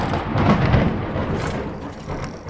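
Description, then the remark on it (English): A deep, rolling rumble of thunder fills the whole moment, loud and sustained, with a steady hiss of rain underneath and no voices. “That's the only time I've ever seen you bring down the thunder.”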